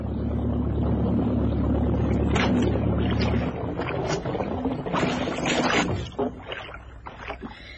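A boat engine drones with a steady low hum, then is cut partway through so the boat can drift in the swell, leaving water sloshing and lapping against the hull.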